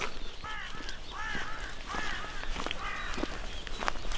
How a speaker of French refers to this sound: Et le corbeau qui avertit l'arrivée d'un pèlerin.